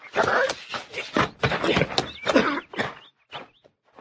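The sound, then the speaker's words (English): A horse whinnies and snorts as its rider dismounts, its hooves shuffling and stamping on the ground in a quick cluster of heavy steps, then settling into a few last faint thuds. “Get off your horse.”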